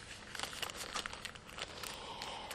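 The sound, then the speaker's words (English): A plastic bag holding a set of three or four software CDs crinkles and rustles steadily for a few seconds, fairly quiet, with sharp little crackles throughout as it is handled. No one speaks. “And then is the SUS DVD products, which I believe is a set of three or four CDs in a plastic bag.”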